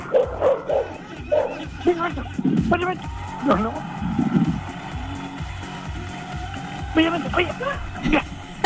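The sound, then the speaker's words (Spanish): A small dog that has run off from a woman yaps and yips repeatedly in short bursts over steady traffic or engine rumble, with people talking at moderate loudness. “Se le arrancó su perrito.”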